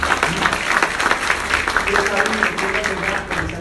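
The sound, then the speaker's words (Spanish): An audience claps steadily for several seconds in honour of the Virgin Mary during a religious sermon, a dense, even patter of hands at fairly loud level, with a few voices calling out faintly underneath. “Dale un aplauso a María Santísima.”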